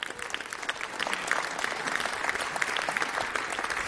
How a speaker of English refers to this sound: Give them a welcome applause, please. It's early in the morning, but we're going to kick back here.